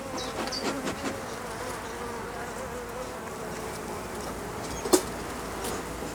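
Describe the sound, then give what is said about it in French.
A dense, steady hum of many honeybees swarming around a hive, continuous throughout with slight swells, and a single sharp knock near the end. No one speaks. “faut être très, très doux en fait avec les abeilles, il faut y aller en douceur, parce que sinon après, voilà, elle peut être agressive.”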